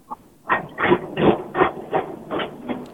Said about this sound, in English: it sounds like there's a railroad moving in the background. There you go. I'm sorry. Yeah, I'm sorry. I'm at Home Depot.